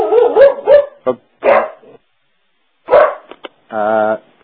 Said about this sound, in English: I have a dog that barks at everybody who comes.